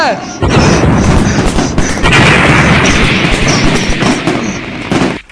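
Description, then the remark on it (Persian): A cannon and mortar fire sound effect: a loud, dense barrage of booming blasts and rapid crackling shots that pile up into a continuous roar running for about five seconds. “با شما بچه ها کی در میزنه وسط توپ و خمپاره؟”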